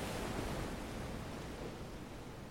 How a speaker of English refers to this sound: He dropped the belt he always carries, threw himself on the sand that was warm and fine, and listened to the sound of the surf. It was as if he had finally found someone who spoke his language. The Pacific Ocean.